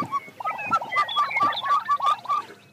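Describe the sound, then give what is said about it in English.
A chicken clucks in a quick, steady series of about ten short, nasal, mid-pitched notes, fairly loud and with no voices over it. “So that would be a chicken.”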